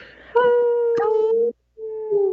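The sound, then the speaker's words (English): Two people on a radio show imitate wolf howls with their voices: a long, steady, mid-pitched howl, a short pause, then a second, shorter howl that rises slightly at the end. “Thank you for not making me howl on my own”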